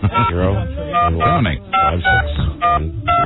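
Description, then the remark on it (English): A series of about six short telephone keypad dialing beeps, dialing an international call to Italy, the Turin Palace Hotel; steady two-tone pitches repeating in quick succession while people keep talking over them. “Let's just try to call Italy and see if anybody will take our call”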